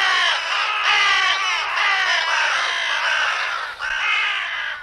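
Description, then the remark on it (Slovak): A dense flock of crows on a housing estate caws all at once, harsh overlapping calls merging into a loud, continuous raucous chorus with no pauses, filling the whole scene. “obsadia sídliska, no tak krákajú, no ale myslím si, že sa treba s tým zmieriť.”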